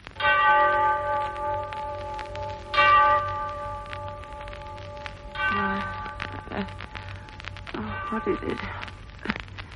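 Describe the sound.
A clock bell strikes the hour with two loud, resonant chimes whose rich overtones hum on and fade slowly, followed by softer murmuring voices and faint rustling.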